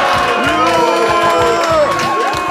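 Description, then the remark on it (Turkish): A booing sound effect: a loud crowd jeers and shouts together in a sustained, dense wash of voices, with rising and falling howls layered over a steady roar for a few seconds. “Evet, yuhalamak ister misiniz? Efekt var bende.”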